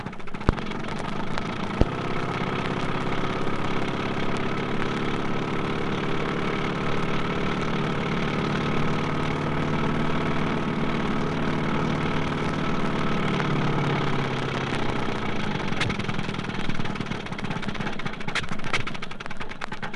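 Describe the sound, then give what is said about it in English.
A twin-cylinder copper-jacketed engine, offered from 1919 to 1928 as an extra-cost option, starts with a sharp knock, then idles in a steady, droning mechanical hum that holds for several seconds before easing down. It is moderately loud, with no talking. “Let's listen to the typical sounds of starting up one of these twins.”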